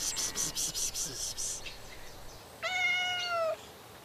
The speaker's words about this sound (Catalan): He sentit el gatet. Sí, jo també l'he sentit.